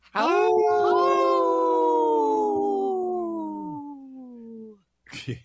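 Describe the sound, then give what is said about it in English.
A person imitates a wolf howl: one long, loud, sustained vocal tone that glides slowly downward in pitch for several seconds, then fades out, followed by a short breathy noise. “Good howl there”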